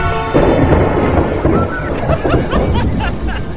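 A thunderstorm rumbles with heavy, continuous low booming thunder over a steady wash of rain, loud throughout the few seconds, with no talking.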